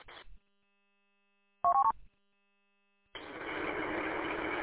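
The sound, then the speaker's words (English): A quick cluster of short electronic keypad tones from the keypad on a radio's microphone, pressed while programming the radio: a few loud beeps in rapid succession, followed after a pause by a steady, loud hiss of static. No one speaks. “Normally I use my laptop and chirp to program this radio, but my laptop is out of order, so I have program this in using that silly little keypad on the microphone.”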